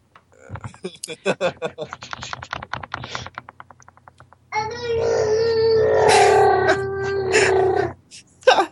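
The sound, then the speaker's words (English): A phone ringtone of a Wookiee roar, set as a Wolfman Jack scream: after a few seconds of choppy voice-like sounds, a loud, sustained, growling howl rises and holds for about three seconds before cutting off. “My phone rang with my Wolfman Jack scream.”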